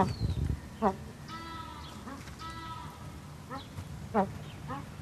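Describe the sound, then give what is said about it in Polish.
Eared pheasants, from the Tibet and Himalaya region, give short, harsh, repeated calls in small bursts, with a few longer drawn-out nasal notes between them, over a low background murmur. “Akurat tutaj patrzymy na bażanty pochodzące z okolic Tybetu, Himalaji. Są to akurat uszaki.”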